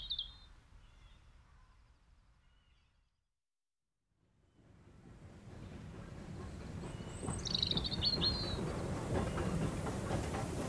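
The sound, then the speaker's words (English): After some faint birdsong and a brief silence, a steam train puffs away down the track with rhythmic puffs building to a steady, loud rumble, a high whistling tone sounding briefly over it. “But the train puffs away down the track.”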